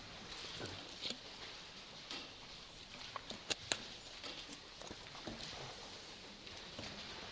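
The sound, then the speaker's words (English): Soft, scattered papery rustling as Bible pages are turned to Isaiah 46 during a Bible study, with a few sharper flicks and taps breaking through a low, steady hiss. No one speaks. “We'll wait for, hear those pages turning.”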